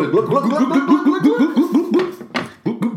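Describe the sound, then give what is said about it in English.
Liquor glugs out of a bottle, poured straight into a glass without a jigger, in a fast, steady run of hollow, bubbling pulses, about a dozen in quick succession, then a brief clink and a few more gurgles at the end. “You just pour mine in there.”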